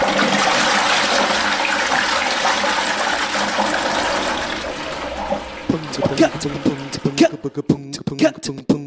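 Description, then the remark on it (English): A toilet flushes with a full, loud, steady rush of water for about five seconds, then fades out as a person starts talking. “Put in a full-on flush. Flush time, now.”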